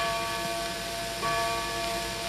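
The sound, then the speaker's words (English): A resonant clock chime strikes midnight (12 o'clock) with sustained, overlapping bell tones, a second stroke arriving about halfway through and swelling slightly louder, with no voices over it. “It's 12 o'clock. It's midnight. Look at the clock.”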